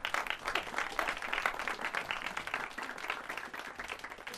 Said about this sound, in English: And hopefully I didn't miss anybody, but give a real round of applause to our soloists.